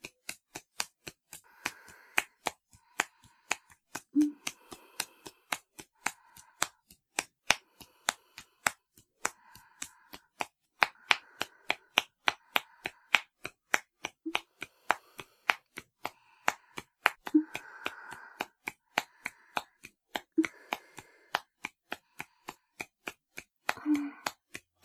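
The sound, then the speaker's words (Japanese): Steady, rhythmic tapping of a knife chopping food on a board, dozens of sharp knocks in a quick even beat, with a few soft low thuds scattered among them and no talking. “このように、トントントンと、まるで楽器を奏でるかのように。”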